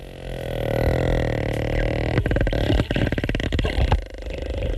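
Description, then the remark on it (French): A sperm whale call: a low, sustained groaning tone that breaks into a rapid, rattling train of creaking clicks, much like a heavy door swinging shut, with no voices. “C'est pas un grognement, c'est un peu comme le bruit d'une porte qui se ferme.”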